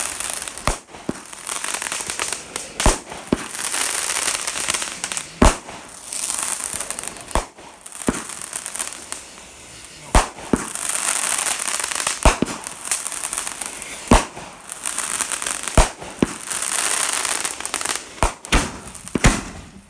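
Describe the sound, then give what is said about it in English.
Repeated sharp fireworks bangs and pops burst overhead at irregular intervals over a steady hiss of crackling, loud, with leftover firework debris raining down, and no voices. “Literally raining leftover firework material down on us.”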